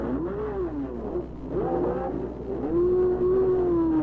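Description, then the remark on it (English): A race car, just fueled during a mid-race pit stop, roars as it accelerates out of the pits toward the track, its pitch climbing through gear shifts with brief dips between, loud with no talking. “Fueled up after his mid-race pit stop, heads for the track”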